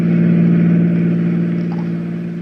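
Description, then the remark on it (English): A fast-moving car's engine drones steadily at speed on a windy night, with a car door open, a loud, continuous low hum that eases off slightly toward the end, with no voices present. “A fast-moving car, a windy night, an open door, and...”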